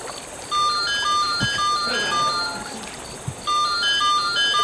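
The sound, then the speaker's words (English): A mobile phone rings with a bright electronic melody of short beeping notes, playing one phrase, pausing briefly, then starting again over a faint background murmur. “Damn it, my phone!”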